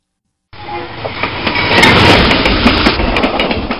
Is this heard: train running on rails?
yes